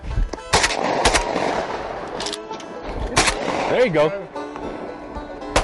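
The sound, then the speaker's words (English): Several sharp, loud gunshots crack out at irregular intervals, fired toward water, over a busy background with a brief voice calling out between shots. “Hey, do shooting in the water count?”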